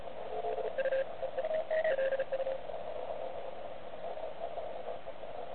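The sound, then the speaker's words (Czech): Chattering radio signals with interference crackle over a steady band of static, with short bursts of warbling tones in the first half before the noise settles into a continuous hiss. “slyšet ten chamrat těch signálů.”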